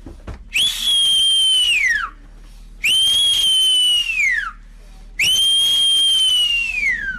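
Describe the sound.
A person whistles three long, steady, high-pitched blasts imitating the ship's siren that a ship leaving port sounds, each held about a second and a half before sliding downward, with short pauses between them.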